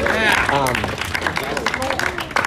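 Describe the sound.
A scattered round of applause for a recently married friend, a patter of hand claps running under animated voices that talk over it throughout, with the clapping growing more distinct in the latter half.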